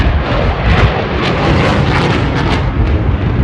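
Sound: fighter jet aircraft engine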